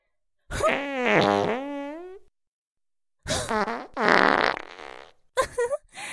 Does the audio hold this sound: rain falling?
no